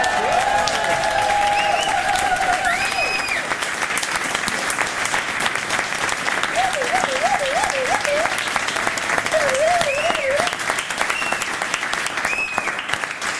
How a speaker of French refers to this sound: Mesdames et messieurs, chères auditrices, chers auditeurs, pour la dernière fois dans cette émission, merci d'applaudir